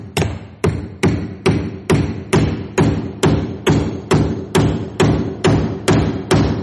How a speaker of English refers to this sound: So we'll nail this board together, okay? And we'll pull out trusty hammer. And we're going to pound it in.